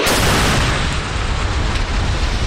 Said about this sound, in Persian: مانوری که در آن موشک‌های بالستیک و کروز شلیک شدند. کرملین اعلام کرد که نیروهای هوافضای روسیه با موفقیت موشک‌های بالستیک مافوق صوت کینجال با قابلیت حمل کلاهک هسته‌ای و پرتاب از هوا و دیگر انواع موشک‌ها را در طول رزمایش شلیک کردند.